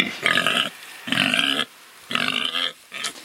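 A pig grunts in three loud, drawn-out calls followed by a shorter fourth, each harsh and nasal with strong harmonics, with brief pauses between them.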